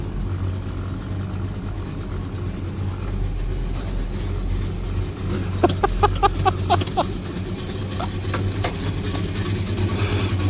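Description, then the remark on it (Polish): A modified American car's engine idles steadily throughout, a deep continuous rumble, with a short series of sharper clicking or ticking sounds partway through and no talking. “dźwięk jest niesamowity, ale powiem Ci tak, na razie do rozmowy zgaśmy, bo nie będzie nikogo słychać.”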